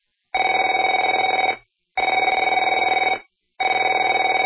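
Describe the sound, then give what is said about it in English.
A telephone rings three times, each ring a loud, rapidly trilling electronic bell lasting just over a second, separated by short silent pauses, with no voices. “Afraid to answer it?”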